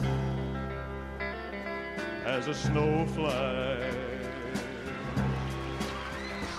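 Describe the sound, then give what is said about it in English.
A recorded pop song plays at a steady, moderate level: sustained instrumental backing opens, then a singing voice comes in after about two seconds and carries a smooth, flowing melody. “let's go back to a little …, one of my favorite songs”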